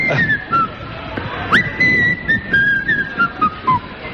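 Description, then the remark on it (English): A person whistles a movie theme, a bright, march-like tune with a quick upward swoop partway through, each note clear, while low background murmur sits underneath. “He did one of the most memorable whistles ever in The Great Escape.”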